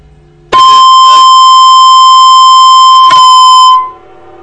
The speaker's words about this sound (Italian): Ma scusa, ho sentito un fischio. Sì, ebbene, non era per te.